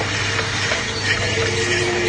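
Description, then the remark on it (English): A garbage truck's engine rumbles and whines steadily and fairly loudly, a continuous mechanical drone with a low hum that never lets up. No one speaks. “You should have left the garbage truck out.”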